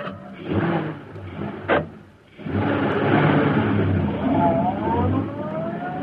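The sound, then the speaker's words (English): Bleeker's car engine turns over after a brief clunk, then settles into a steady rumble that revs and rises in pitch as the car pulls away into the street toward Schaefer's parking lot, loud, with no talking. “As Bleeker's car swung into the street and turned toward Schaefer's parking lot, a huge, sleek black car started along behind them.”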